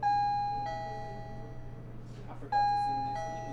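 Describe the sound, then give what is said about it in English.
The entrance bell of The Aftermarket, a nonprofit grocery store and food pantry in Northeast Las Vegas, rings twice, each bright electronic tone starting sharply and slowly fading, with faint indistinct voices and a steady low hum in the background. “And you're probably going to hear that bell a lot.”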